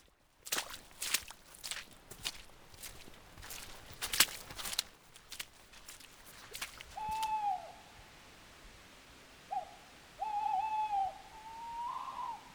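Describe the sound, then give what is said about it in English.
At least two tawny owls calling back and forth on a woodland slope on the other side of a gill, wavering hoots and a sharp call repeating, after a stretch of crunching footsteps and rustling; no one speaks. “Tawny owl, there's at least two of them. You can hear them calling on the slope, the other side of the gill from us.”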